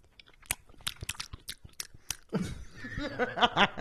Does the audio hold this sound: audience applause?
no